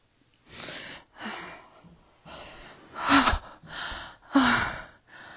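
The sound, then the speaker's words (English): Heavy, rapid panting from a person collapsed on the floor: about seven breathy bursts in an uneven rhythm, a couple of them louder, voiced gasps with a throaty catch. No talking. “I collapse to the floor. In a panting heap.”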